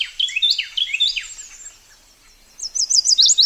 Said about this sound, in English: The rich notes of a Carolina wren carry through the understory. A year-round resident, it's been singing since the end of winter.